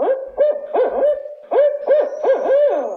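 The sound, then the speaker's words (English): A barred owl, a bird native to Minnesota and Wisconsin, gives a loud hooting call, a series of rising and falling hoots with wavering, slurred notes in two rhythmic bursts, no other sounds around it. “Any outdoors person in Minnesota, Wisconsin, or across the region can recognize the distinctive call of one of our native birds, the barred owl.”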